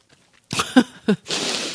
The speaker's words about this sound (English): For all those listeners who hate it when we make a lot of mouth noises, you try eating a Snickers bar without making a lot of noise. I hear it.